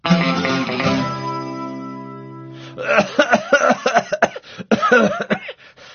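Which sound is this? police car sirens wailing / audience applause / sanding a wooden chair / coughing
coughing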